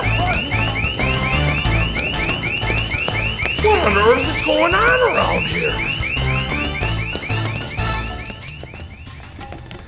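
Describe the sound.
A door alarm, set off when a closed door is opened, blares steadily throughout, its rapid repeating electronic whoops loud, while a person speaks briefly over it midway.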